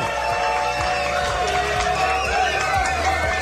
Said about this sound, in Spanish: Tantos aplausos, me alegra. Gracias.